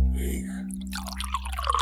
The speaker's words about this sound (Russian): Давай, Федя, наливай.